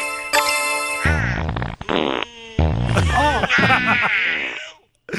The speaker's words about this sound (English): Oh, my stomach. Oh. The angels make him fart.